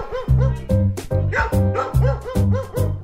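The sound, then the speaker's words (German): A female guest dog barks repeatedly, guarding its territory, the seating spot: loud, sharp barks in a steady rhythm of about two per second, with no talking. “Weil das ist jetzt hier unser Sitzplatz und schon fängt sie an, das zu bewachen.”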